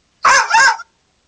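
A dog barks twice in quick succession, two loud, slightly rough yelps with nothing else around them.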